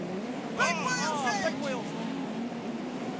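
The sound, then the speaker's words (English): A steady, loud roar of race cars on a dirt track runs throughout, with 36 laps to go in the World 50 lap classic as Rico Abreu goes to the high line through turns one and two around the outside of Ben Grumman's 36 car; a voice talks briefly over the noise near the start. “Rico Abreu to the high line through one and two, right round the outside of the 36 car of Ben Grumman.”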